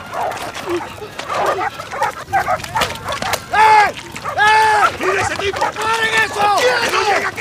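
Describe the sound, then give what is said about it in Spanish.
A dog barks and whimpers in a run of loud, high-pitched yelps and whines, bunched in the second half, over a noisy background of clamoring voices. “¡Esta negra tiene un cachorro!”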